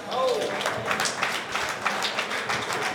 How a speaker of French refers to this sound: beau joueur, applaudis très très fort.